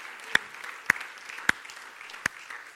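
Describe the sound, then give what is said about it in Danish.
A crowd claps for Jesus in a scattered, diffuse patter, with four louder, sharper claps standing out at irregular moments. No one speaks. “Jesus, du fortjener en klap.”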